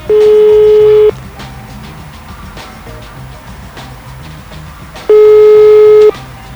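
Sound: telephone ringing tone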